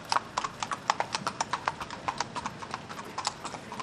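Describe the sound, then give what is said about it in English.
Horse hooves clip-clop in a steady, quick rhythm on a hard surface at the Dublin Horse Show, a series of sharp knocks with no voices over them. “Some of the lovely horses.”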